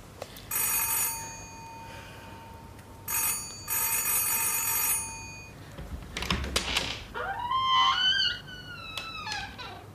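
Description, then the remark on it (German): A doorbell rings twice in long, bright electric bursts, followed by a knock or door sound and some squeaky, warbling noises near the end. “Klingel mal.”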